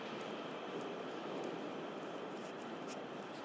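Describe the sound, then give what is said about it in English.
A steady, broad rumbling roar of a train passing by, holding at an even level throughout with a faint rattling texture on top and no voices. “There's the train thing yet.”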